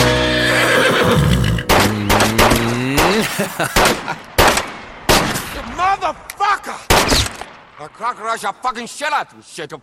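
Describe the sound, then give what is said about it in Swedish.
A person loudly imitates a horse's whinny, starting with a long warbling neigh and continuing in a series of quick, rising and falling vocal bursts with sharp breathy snorts between them. “Där stod jag och gnäggade ett tag.”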